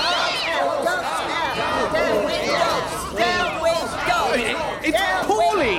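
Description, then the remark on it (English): A dense chorus of overlapping meows, many rising and falling wails at once, like a crowd of pro-cat protesters imitating cats, loud and continuous throughout. “Wait, he's barking at that cat. How did that cat get in? Oh, there's another.”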